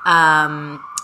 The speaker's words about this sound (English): Obviously, I live here in New York. You can hear the sirens.